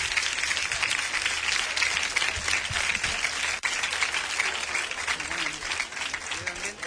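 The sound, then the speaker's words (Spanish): A sustained burst of applause from the audience of a full plaza at Colombina, dense and steady clapping from many hands filling the whole stretch at a fairly loud level, with a brief dip midway. “Va por vosotros esta ovación.”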